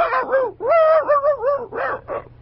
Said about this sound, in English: Hey, I think he likes you, Lou. Particularly my leg. Down, boy. Bad dog.